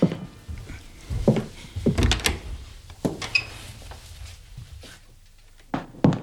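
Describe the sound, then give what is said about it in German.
A door is opened with a few wooden knocks and thumps, a brief creak and rattle in the middle, then quiet before two final bumps. “Na, dann wollen wir doch mal sehen, was sich hinter dieser Tür hier befindet.”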